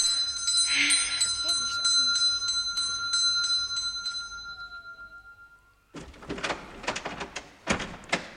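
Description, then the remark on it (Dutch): A house doorbell rings late in the evening with a bright, sustained chime that slowly fades out, followed by a burst of clattering and shuffling noises like a door opening, with faint voices in the background. “Zo, nou jongens, wie tilt me even op? Dan kan ik bij de bel.”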